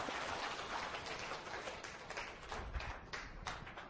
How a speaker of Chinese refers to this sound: 所以我们有5分钟给他来讲解，我们大家来给个掌声吧，哈利路亚。